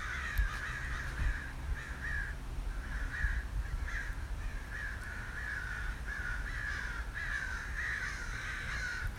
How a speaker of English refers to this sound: Now I know why they do the crows in the horror films.